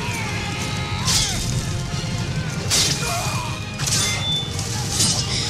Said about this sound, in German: Ja, hier knacken wirklich die Knochen, hier flirren die Pfeile und klirren die Schwerter.